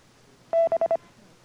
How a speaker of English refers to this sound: You can specify pitches, durations, and spacings. Your courtesy tones can also be Morse code characters and sound effects.